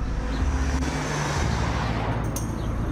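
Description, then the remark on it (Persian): A steady, fairly loud rumble of a car engine and road noise continues throughout, with a low tonal drone shifting slightly partway through. No one speaks. “اینه هاش ماشین خودمونه”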